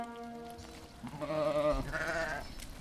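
Sheep bleat in a short run of wavering, quavering calls, a steady drawn-out one followed by two louder trembling bleats, with no voices.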